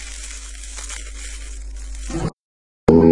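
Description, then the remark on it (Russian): Steady crinkling and rustling of a plastic packaging bag holding an STM32H7B0 VBT6 board and an OV7725 camera, being handled and opened for about two seconds, then a brief silence before a short burst of more crackling. “Ну чё, слышите пакетик?”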